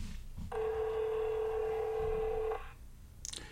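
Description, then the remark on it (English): A telephone call being placed: a single steady electronic phone tone rings out for about two seconds, fairly loud, followed by a brief click, with no talking. “We're gonna make a phone call.”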